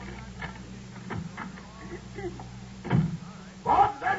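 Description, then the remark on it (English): Metallic clicks and jiggling of a key working the lock of a front door, followed by a louder clunk and scrape as the door swings open near the end. “Oh, here's the key to the door.”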